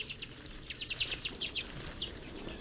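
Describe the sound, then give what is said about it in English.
Redpolls calling in a soft, busy chatter, with quick high chirps and twitters repeating unevenly over a faint low rumble. No voices. “Come morning, when the sunshine warms the air, they pop out of the roosting cave, leaving the smooth blanket of snow pocked with redpole-sized craters.”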